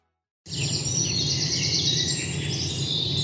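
A dense chorus of birds chirping and singing together in the morning, bright overlapping calls continuing steadily over a low background hum, with no voices.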